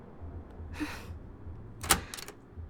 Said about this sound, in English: Oh fuck, is that the door? Is that you? I don't even know your name. God, I hope it's you. Or else you gave me the wrong hotel room.